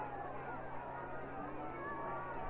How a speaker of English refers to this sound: Large crowd here at Dirks Field. Try to get the official attendance for you as soon as we can.